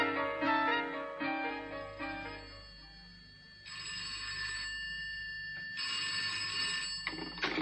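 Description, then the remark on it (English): A telephone rings alone, first with a rapid trilling bell pattern, then two longer bright electronic ring bursts separated by a short pause, fairly loud. “Next step is to phone him tomorrow and ask for me.”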